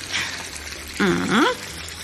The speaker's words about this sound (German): So, jetzt geben wir so viel Wasser in den Topf, dass die Früchte gut bedeckt sind.